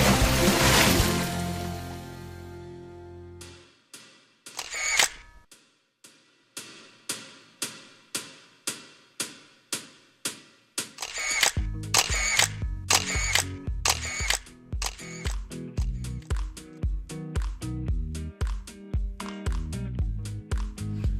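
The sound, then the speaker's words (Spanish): Camera shutter clicks fire one after another in a steady, sharp series after a brief rushing burst, then keep going more rapidly over a low, thumping background. “Aquí estamos, venga a hacer fotos y venga a hacer fotos.”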